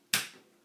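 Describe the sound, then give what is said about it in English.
A single sharp click of a kettle's wall plug switch being flipped off while household plugs are checked, fairly crisp, with a short decaying ring and no voices around it. “That was the kettle plug on.”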